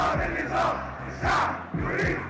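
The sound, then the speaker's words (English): A large crowd of protesters in the streets shouts slogans together in loud, surging waves, voices rising and falling in a rough rhythmic chant, with low thumping beats underneath the roar. “People poured into the streets, shouting words that became slogans of their hopes and dreams.”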